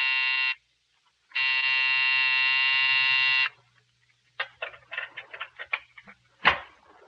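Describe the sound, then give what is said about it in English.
The night buzzer of Dr. Robbie McClure's office building growls: a harsh, droning, loud buzz in two bursts, one short and one long. A flurry of scattered clicks and knocks follows. “It sat square and solid on its haunches, and when you pressed the night buzzer, it growled at you.”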